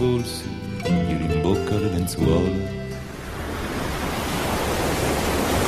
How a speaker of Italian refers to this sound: Ma guarda quelle onde, Johnny, guardale